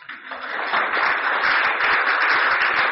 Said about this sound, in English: So I think a round of applause for the people of Canada.